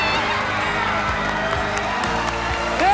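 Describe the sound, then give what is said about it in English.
A large crowd at a rink roars and cheers continuously after a skating routine, a dense wall of voices with scattered whoops and shouts rising out of it, loud and reverberant. “To an incredible routine, and they've won this crowd over.”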